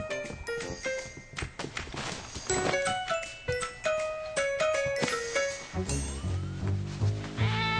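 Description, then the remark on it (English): Gilbert, the cat in Caillou, meows amid busy, playful music full of plucked, jingling notes, with a low, heavier passage near the end; no one speaks. “Silly cat, get out of there!”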